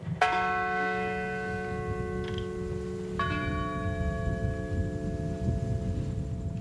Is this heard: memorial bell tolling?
yes